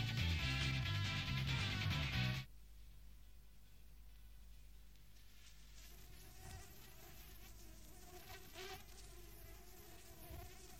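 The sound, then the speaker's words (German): A fly buzzes loudly for about two seconds, a steady droning whine, then cuts off abruptly, leaving only a faint low background hum. “Sie verfolgen die Fliege an der Wand.”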